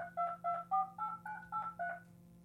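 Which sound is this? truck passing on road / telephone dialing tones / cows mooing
telephone dialing tones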